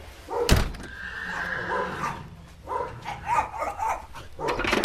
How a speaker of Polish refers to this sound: To jest koń zimnokrwisty, PKZ, matka ze stadniny Jankowickiej, a ojciec typowy Arden szwedzki.